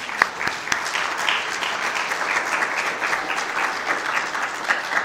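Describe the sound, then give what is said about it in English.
A church audience applauds all the fathers and grandfathers steadily for about five seconds at a morning service, a dense wash of many hands clapping at an even level with no voices on top. “Why don't we give a big round of applause for all the fathers and grandfathers today?”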